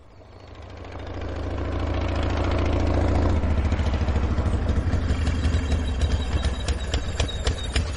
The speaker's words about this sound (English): What's that you've come on? What's it look like? Cross-country motorbike. Quadricycle. Oh, it's got grand thick tyres.